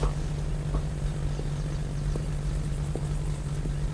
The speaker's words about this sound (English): I can't get on that plane. I can hardly fly commercial, let alone just a tiny little propeller thing like that.